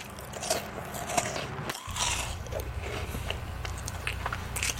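Loud chewing and crunching as an animal wolfs down food, with rapid wet bites and crackles continuing steadily, briefly pausing before resuming.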